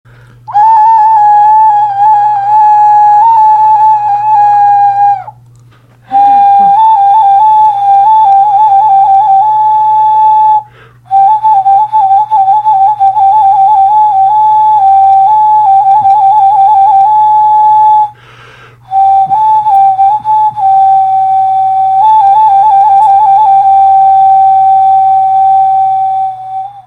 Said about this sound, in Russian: Итак, соло на свистульке. Не судите музыканта строго. Играю, как могу.